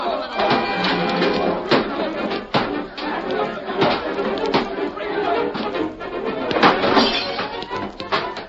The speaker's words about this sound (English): Gamblers were determined to wreck the Riggs place beyond repair. Guns blazed, the bar was overturned, chairs and tables were smashed.